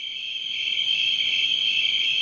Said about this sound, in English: Crickets, yeah.